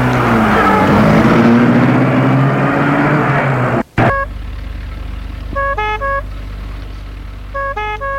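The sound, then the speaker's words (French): An ambulance carrying a patient and his wife drives off toward the Parc de la Tête d'Or, which is closed to the public: its engine revs and roars as it pulls away, then cuts to a steady low rumble with a few short bursts of bright, stacked honking tones. “L'ambulance va jusqu'au parc de la Tête d'Or qui est fermé au public.”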